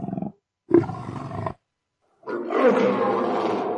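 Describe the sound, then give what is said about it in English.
A monstrous dragon roar comes in three loud bursts: a short growl, a fuller roar, then a long, rumbling, sustained bellow, with no talking. “And he goes, rah, rah, like a dungeon dragon.”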